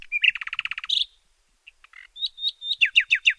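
A canary sings: a rapid trill of bright chirps, a brief pause with a few soft notes, then a rising run of sharp, evenly spaced tweets. No one speaks.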